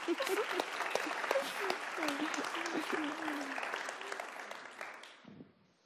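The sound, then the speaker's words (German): Steady applause from a crowd, dense clapping with a few cheers or voices mixed in, holding strong for about five seconds before quickly fading away. “Der Judith-Check-Test ist super gelaufen und ich finde, das ist ein Applaus wert.”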